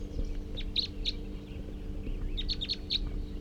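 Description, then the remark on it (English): A small, just-captured male wild bird with a lot of yellow on the head, bird number 341, captured at 7:30 on June 19th, sings in two quick bursts of high, thin chirps and trills, heard over a steady low background hum, with no voices. “So recording that male who was just captured, somewhat small build and has a lot of yellow on the head.”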